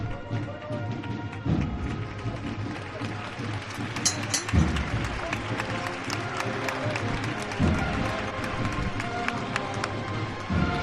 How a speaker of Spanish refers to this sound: Bueno, los aplausos aquí al final de la Plaza de Santo Domingo, que como nos tiene acostumbrados este paso de misterio, pues estaba caminando atrás de esta hermandad.